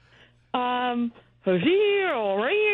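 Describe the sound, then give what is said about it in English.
Two drawn-out, nasal calls of a long-eared owl: a short steady one, then after a pause a longer one whose pitch sags low and rises again, loud, with no talking. “Oh, no, that's the long-eared owl.”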